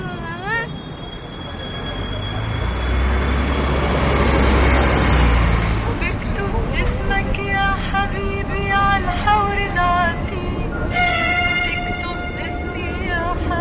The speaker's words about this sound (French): Et nous roulons en direction de la frontière macédonienne. Le bus est plein, comme le bateau l'était lorsque nous avons fait la traversée de l'île de Chios jusqu'à Athènes. Ce bus nous amène à la frontière macédonienne